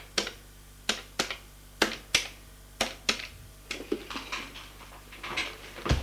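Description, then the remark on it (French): A telephone number being dialed in a living room: a series of sharp, crisp clicks at an uneven pace, the first several distinct and fairly loud, then softer, quicker taps, with a faint low hum and no voices. “Fait le numéro de téléphone”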